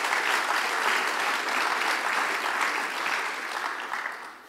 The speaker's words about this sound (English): Now, can we just give the Lord a clap and just thank him for that?